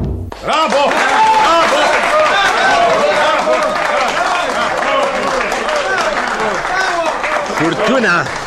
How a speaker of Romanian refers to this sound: Furtuna de aplauze e pentru dumneavoastră, onorată și stimată doamnă.